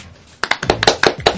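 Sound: hands clapping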